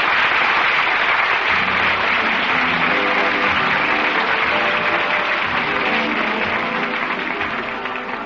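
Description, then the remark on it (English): Sustained applause from a large theater audience at the Little Theater off Times Square as the curtain falls on the last act of a Broadway performance, an ovation for Mr. Zelay and Miss Lottie; a dense, steady wash of clapping holds at full strength for several seconds before tapering off slightly, with no voices. “Mr. Zelay and Miss Lottie are receiving a great ovation, a place to hit. If the first night is like it, listen to that applause.”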